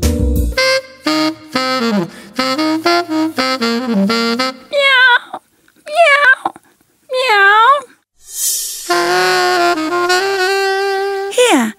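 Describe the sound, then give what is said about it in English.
A hungry cat meows several times, each call bending up and down in pitch, after a run of choppy vocal sounds, and ends with a long, loud, drawn-out wailing meow. “You're a hungry cat.”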